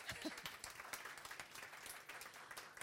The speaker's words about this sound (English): Well, I think we should give Nicola a huge round of applause.